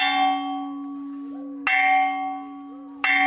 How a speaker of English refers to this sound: At Longameri Primary School, the bell rings and children head home, not knowing whether they will get any lunch.